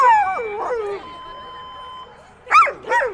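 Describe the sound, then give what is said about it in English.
Sled dogs at a race finish line howl in wavering, rising and falling tones, one long steady note held for a moment, then two sharp yelping yips burst out near the end. “Jennifer Cornell was standing next to the finish line cheering on the dogs and mushers”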